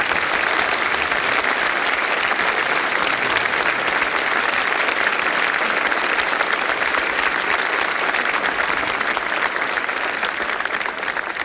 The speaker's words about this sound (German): Aber großer Applaus für Musik und für unsere Techniker.